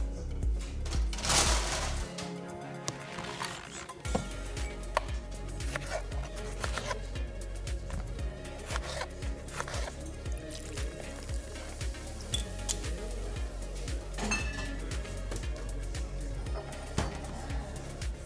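An Aperol Spritz is mixed at a new space at Dorferstrasse 90: liquid pours and fizzes, ice and bottles shift with wet squishing, and brief glassy clinks ring out now and then, with no talking.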